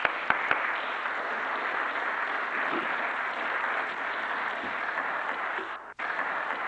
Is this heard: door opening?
no